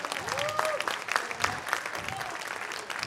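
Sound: audience applauding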